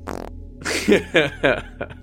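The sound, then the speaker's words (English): A fart sounds, a short opening burst followed by several sputtering, buzzy pulses over about two seconds with a low hum underneath and no talking. “close the door stealthily before, like, sitting like a lump on the floor and audibly farts.”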